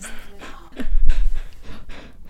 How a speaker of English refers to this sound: Or lick the mic. Oh, nice. Oh, dog germs. She just wants to have her say, you know?